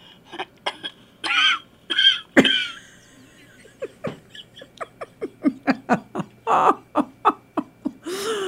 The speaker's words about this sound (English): Was that your bird? That was my bird. Wow. That was Buddy. Buddy's got a big mouth. Buddy really wanted to be part of that.